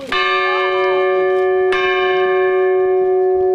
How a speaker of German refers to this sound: Oberbürgermeister Carsten Feist schlug die Schiffsglocke an, die wieder im Original zurück an Bord ist.